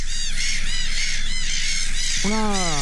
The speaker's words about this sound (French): Oula, ça c'est... C'est une colonie. Ouais, une colonie. On est dans les oiseaux, on est d'accord ? On est dans l'oiseau. Ouais. J'aurais dit des chiens. Non, je sais pas, c'est des... Attendez, c'est des mouettes, ça ? Oui, c'est des mouettes.